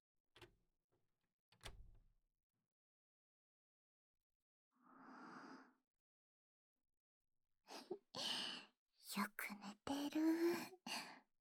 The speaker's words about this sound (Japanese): いびきかいちゃって